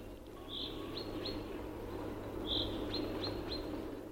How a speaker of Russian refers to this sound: С утра до вечера в лесу заливаются зяблики.